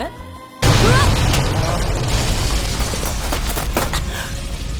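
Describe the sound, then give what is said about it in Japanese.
Fireworks set on the tire of Sarouyaji's car go off: a sudden loud firecracker bang, followed by a dense, crackling string of sharp pops and booms that keeps going for several seconds. “すぐそこでサロウヤジの車見つけたんで、タイヤに花火仕掛けてやった。”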